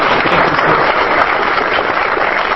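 Steady, loud applause from a crowd in a ballroom in Washington, D.C., as a National Guard sergeant receives a token of thanks for his service; a dense continuous wash of many hands clapping with no pauses and no voices rising above it.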